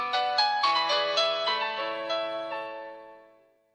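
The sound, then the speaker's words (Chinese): A short, bright Nokia mobile phone ringtone melody plays on its own, a quick run of about a dozen electronic notes in steady rhythm that rings out and fades over the last second. “音乐让我说爱， 诺基亚手机。”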